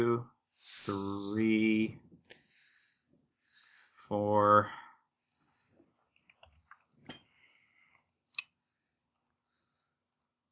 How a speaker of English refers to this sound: I'm rolling 9 dice, so I have a good chance of actually beating him on this.